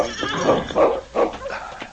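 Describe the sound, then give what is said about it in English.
A horse whinnies in a series of three or four quavering, wavering cries, fairly loud and heard on its own without any talking, as Sergeant Preston reins it in at the constable's office in Selkirk. “When they arrived in Selkirk, Preston, who had taken his horse aboard with him, rode directly to the constable's office.”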